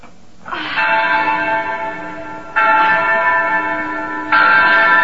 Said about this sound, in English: Oh, well, ring the bell